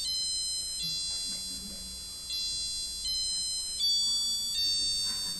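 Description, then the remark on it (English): A digital watch plays its hourly chime, the Big Ben chime melody: a short tune of shrill electronic beep tones that hold and shift pitch every second or so, steady and fairly loud, with no talking. “So that's the hourly chime.”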